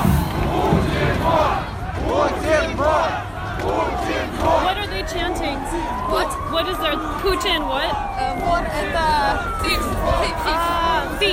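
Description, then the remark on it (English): A large crowd of protesters in Russia, before Vladimir Putin's fourth inauguration, some carrying a flag, shouts and chants together amid gathering police cars and ambulances: a dense roar of many voices with rising and falling cries overlapping, steady and loud throughout. “Okay, I think I'm seeing protests now.”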